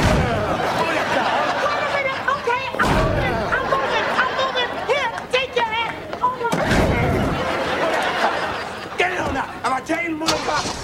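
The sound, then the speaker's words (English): Several loud, heavy thuds land a few seconds apart as someone hops onto and bangs on a car, with voices chattering throughout underneath. “well, watch how I hop on this car.”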